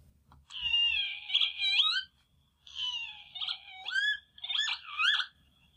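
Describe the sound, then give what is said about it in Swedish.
A northern lapwing, played from a book of bird calls, gives three loud, drawn-out wheezy calls, each slurring up and down in pitch with a nasal, mewing quality, separated by short pauses over a faint low rumble. “Och det är tofsvipan, känner ni säkert igen.”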